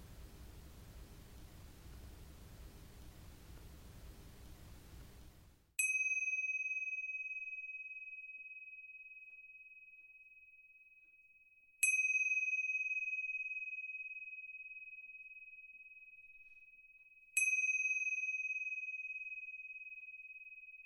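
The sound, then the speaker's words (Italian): Three clear bell strikes signalling the start of a meditation practice, about six seconds apart, each ringing out with a long, slowly fading tone. A few seconds of soft, steady hiss come before the first strike. “Non appena ti sentirai pronto, socchiudi lentamente gli occhi e attendi che il suono delle tre campane ti segnali l'inizio di questa pratica.”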